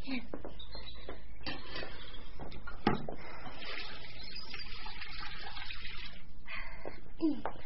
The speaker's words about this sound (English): You haven't scalded the dishcloth in clean hot water as I told you to. Now just go and do it,